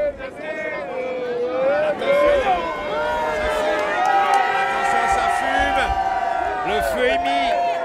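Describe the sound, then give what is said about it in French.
A crowd of nearly a thousand people at an outdoor bonfire cheers and shouts, many overlapping voices forming a dense, continuous roar that stays loud throughout, with occasional higher whoops rising above the din. “Il y a quand même pas loin d'un millier de personnes hein, qui sont là. Ouais, on ne voit pas tout là, on est dans la foule.”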